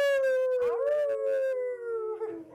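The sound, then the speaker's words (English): A single long, wolf-like howl from a voice howling at the moon, sustained, sliding slowly downward in pitch and holding steady for over two seconds before trailing off. “We're howling at the moon.”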